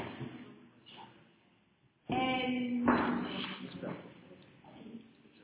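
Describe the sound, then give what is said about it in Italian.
A sudden metallic scrape with a ringing, squealing edge, then a solid thud as a chair is pulled from a stack and set down, with faint voices murmuring. “No, no, prendi una sedia, metti una. No, no, sono impilate là.”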